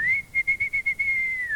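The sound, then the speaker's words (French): A person whistles a single high, clear note to call back a rabbit, first fluttering in several quick pulses, then holding steady before trailing off. Fairly loud, with no one talking. “siffle et le lapin revient.”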